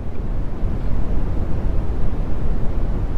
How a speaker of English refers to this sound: Oh, so this is brown noise. Wait, is this brown or white? This is brown. That's sounds a little white to me. Not gonna lie.